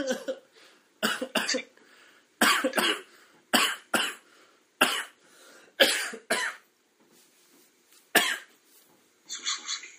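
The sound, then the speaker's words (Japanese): A series of about ten sharp, harsh coughs in irregular bursts, some in quick pairs, fairly loud with short quiet gaps between them. “咳をするんだったらマスクをつけろって思うんだけど、 思う、 そういうやつって絶対つけてないから、”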